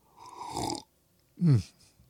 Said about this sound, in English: Yes, that's a loud sip. I learned that from Rush Limbaugh. He would always take loud sips so that he wouldn't have dead air time.